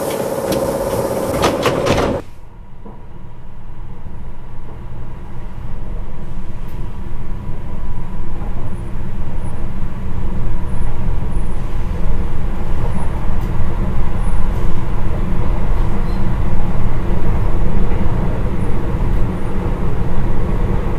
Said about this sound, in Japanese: 1番線に到着の電車は悪霊神社前方面特急迷いが行きです。はい、ドアが閉まります。ご注意ください。